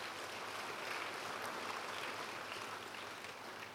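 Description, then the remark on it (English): A crowd claps together in a dense, continuous wash of applause that holds steady throughout, with no voices on top, clapping for the Lord in praise. “He says, you can clap for the Lord.”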